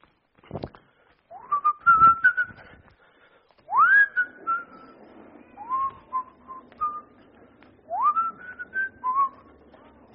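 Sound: person whistling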